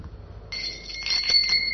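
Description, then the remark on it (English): Srila Prabhupada's famous small hand bell, rung from his quarters to call his servant, rings out after a brief quiet moment: a bright, high, steady jingle shaken continuously for over a second, with no voices. “So Shruti Kirti set up Prabhupada's desk in his quarters, and he went to his room, and then Shruti Kirti heard the famous bell. Bell.”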